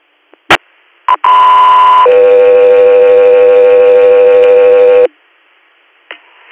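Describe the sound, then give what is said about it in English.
A pair of steady radio paging tones dispatching an interfacility medical transport from Guthrie Lourdes Hospital in Binghamton, New York, to SUNY Upstate Medical Center in Syracuse: a higher pitch for about a second, then a lower one held for three seconds, loud and clear, bracketed by short clicks of a radio keying up. “standby for tones.”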